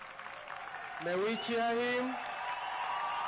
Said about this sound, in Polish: Podziękujmy oklaskami.